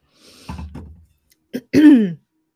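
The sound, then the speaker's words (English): Throat clearing after choking: a low, rough rasp, then a sharp click and a strained, voiced hack that falls in pitch. Loud, brief sounds with no talking. “Oh no, I just choked.”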